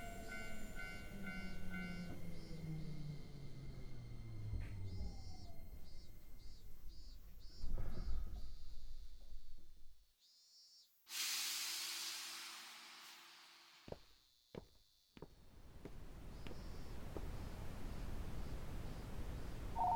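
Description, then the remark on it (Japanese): An electric train pulls into a station, its motor whine dropping in pitch as it slows over rumbling wheels, followed by a loud burst of air-brake hiss and a few clanks. “あ、電車これちょうど来るんじゃない？”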